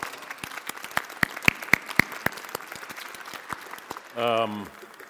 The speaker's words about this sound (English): So for those that were here at the 9 o'clock, as our rector indicated, one of the great good news of the last year is that we achieved our stewardship goal. So please, a little round of applause to everyone for that.